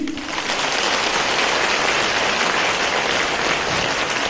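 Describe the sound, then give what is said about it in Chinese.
An audience at a Buddhist talk about Guanyin applauds steadily, a dense, even wash of clapping that holds at a constant loud level for the whole stretch, with no voices standing out. “观世音菩萨把我们全部称为佛呀，你们鼓掌，你们难为什么呢？话还没讲完呢，听得懂吗？”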